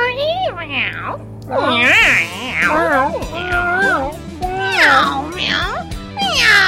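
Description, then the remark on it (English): A chorus of cats meowing and yowling over one another, with rising and falling wails repeating loudly throughout, over a steady low hum underneath. “That's the … playing live on Radio 4am.”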